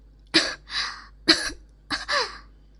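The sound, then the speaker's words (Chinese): Three sharp coughs spaced about a second apart. Each one ends in a breathy, rasping tail. No one speaks. “小贱人咳嗽是因为小贱人天生低贱，生来就卑微，没有享受过主人的这般贵气，不习惯而已，绝不是因为主人鞋子不干净或者有其他的味道，主人别误会。”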